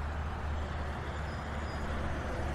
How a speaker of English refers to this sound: And when there's like a slight break in the cars, you almost get it. But then a giant truck just whizzes by you and that peace is gone.